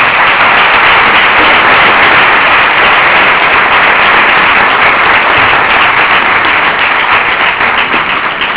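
Steady, dense applause from an audience in Alcalá, a continuous wash of many hands clapping at once that stays loud for about eight seconds and eases slightly toward the end, with no talking.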